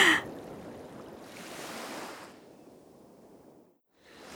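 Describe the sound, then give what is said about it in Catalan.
Broad rushing wash of sea waves breaking on a shore, heard from outside a porch facing the sea, swelling and easing in surges, with a brief lull before another wave rolls in; no one speaks. “Ai, no s'està malament així fora la porxada, eh? De cara a la mar.”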